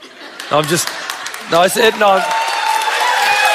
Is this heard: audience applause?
yes